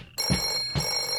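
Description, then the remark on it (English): A telephone bell rings in a steady metallic trill, with two quick pulses of ringing, clear and with no voices; it is the clubhouse phone at the Zucchini Brothers Clubhouse. “Clubhouse phone.”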